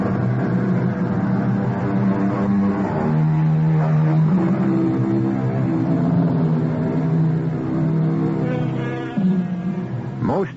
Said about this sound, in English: A small car that's all Buick, with room, comfort, and an engine that no other compact car in America offers. The incredible Buick V6. Skylark, its free spirit made practical.